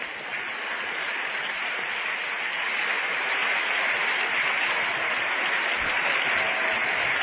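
Sustained theatre audience applause at the Nemzeti Színház (National Theatre) as the curtain falls on the first act of a stage version of Mikszáth Kálmán's novel, a dense, steady wash of many hands clapping at once, loud and even throughout with no voices rising above it.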